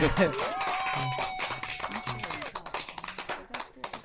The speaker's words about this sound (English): You guys can get upset with me, but I'm giving her the applause. I'm giving her the applause. I feel honored.